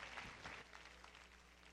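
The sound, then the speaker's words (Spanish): A church audience clapping together in a steady, dense wash of applause for fellow church members and to welcome their apostle, sustained for the whole moment, with no one speaking over it. “Denle un aplauso a nuestros hermanos y recibimos con gozo y alegría a nuestro apóstol.”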